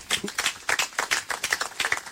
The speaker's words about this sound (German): Ich glaube, das hat auch nochmal einen Applaus verdient.